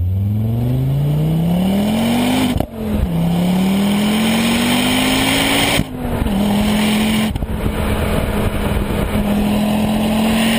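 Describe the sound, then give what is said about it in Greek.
A loud RS 500 car engine revs hard, pitch climbing steadily through three gear changes with brief dips between them, continuous with no talking. “Αλλά και το απόλυτο αυτοκίνητο, το RS 500.”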